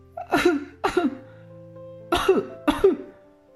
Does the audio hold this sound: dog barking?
no